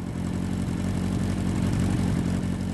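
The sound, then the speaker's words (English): A motorcycle engine rumbles steadily, a loud, continuous low throb with a constant pitch and no voices, holding at an even idle throughout. “The smell of freshly cut summer lawns, fragrant trees on mountain roads, and tires marking the asphalt are so connected with the roar of the bike beneath us that I can conjure them whenever I hear an engine rumble.”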